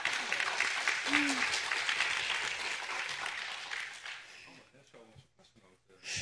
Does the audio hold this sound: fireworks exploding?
no